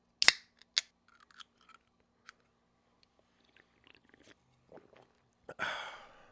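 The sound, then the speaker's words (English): Quiet drinking sounds: two sharp clicks, then scattered small lip and mouth noises, and finally a breathy, hissing sip that trails off near the end. No one speaks. “Let's take a quick sip break, if you don't mind.”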